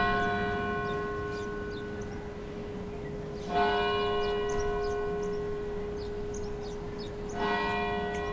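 The Old South Church bells on Boylston Street in the Back Bay toll slowly at 2:49 p.m., three strong strikes several seconds apart, each leaving a long, shimmering ring that hangs in the air, as thousands of people pause. No one speaks.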